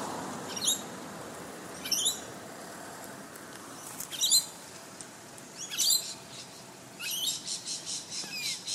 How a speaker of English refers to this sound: Even here in the midst of the shopping centre, there's a lot of birds. They seem to be the thing that I hear over and above the traffic.